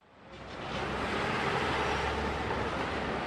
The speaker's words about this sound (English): When you think of the streets of New York City, you think traffic. That means noise, of course, and pollution.